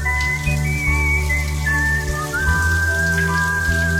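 Shower water running in a steady, dense hiss that fills the whole clip, with a thin whistled melody drifting over it, introducing the KCMQ Morning Shag radio show's shower thoughts segment. No one speaks.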